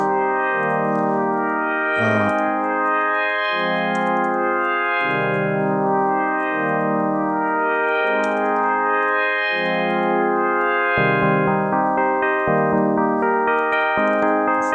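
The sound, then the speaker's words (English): Sustained chords on a melodic instrument wash into one another through a roomy reverb, changing every second or two in a steady, slow progression, with no talking. “What I haven't even shown is that obviously you can use effects, like for instance a reverb.”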